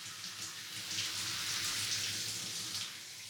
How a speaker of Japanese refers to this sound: ほら、こうやってシャワー当ててるところを手で揉むと気持ちいいでしょ。